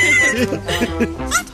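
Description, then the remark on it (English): A parrot vocalizes with a quick run of warbling, bleat-like squawks and chatter, loud and continuous for a moment over a faint steady high tone. “They said, eventually they said it was fine, fine to have a parrot in here, okay?”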